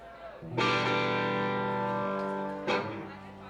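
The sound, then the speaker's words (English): An Ibanez Jet King 1 electric guitar with a split humbucker pickup, played through distortion, strikes a big sustained chord that rings out for about two seconds, then a second chord is hit and rings briefly, loud with a gritty, saturated tone. “The Ibanez Jet King 1, by the way.”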